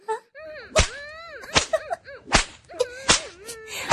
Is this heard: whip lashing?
yes